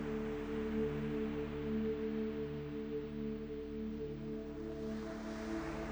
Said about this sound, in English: Through the mist, you hear the ocean waves and it becomes brighter.